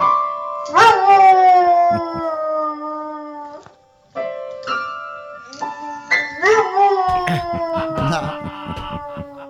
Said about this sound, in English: But somewhere in our United States of America is a dog. A dog that will go and play piano and sing.